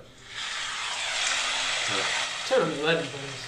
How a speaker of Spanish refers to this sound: Sonido de lluvia relajante para dormir 5 horas. Bueno, pero ¿qué tipo de... dice pantalla oscura? O sea, no es video, es solo el sonido.